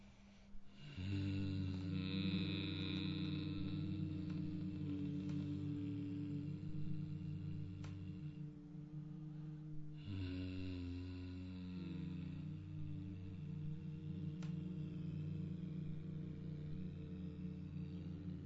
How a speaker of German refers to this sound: Wir machen nochmal einen brummenden Ton beim Ausatmen.